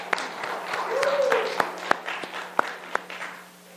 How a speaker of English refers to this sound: How about let's do one more round of applause for them.